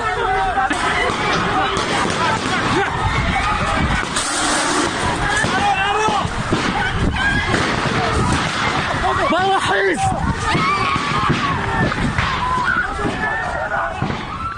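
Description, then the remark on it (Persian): Loud, chaotic crowd commotion of students with many overlapping shouting voices, continuous throughout, with occasional sharp bangs and bursts rising above the din, during a raid by special unit security forces inside the Kurdistan University of Medical Sciences on 7 Aban, in which forces reportedly fired tear gas and gunshots at the gathering. “حمله نیروهای یگانه ویژه به داخل دانشگاه علوم پزشکی کردستان 7 آبان ماه.”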